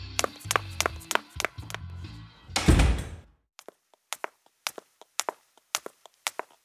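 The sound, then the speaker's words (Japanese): A heavy soundproof door being handled and pushed shut: a series of knocks and clunks, then one loud, deep thud as it seals, followed by sparse light clicks of the latch. “ねえ、その防音扉閉めてよ。”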